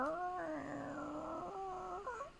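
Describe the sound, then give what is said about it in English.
A Foley door-opening creak effect for a door with many locks, chains and bolts: one long, whiny, squeaking creak lasting about two seconds, its pitch wavering and gliding down and up before trailing off, with no talking over it. “Is that the sound of the door opening?”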